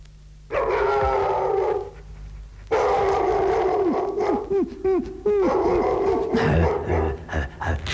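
A dog barks and howls, with drawn-out yowls followed by a rapid series of sharp, excited barks, loud and continuous throughout.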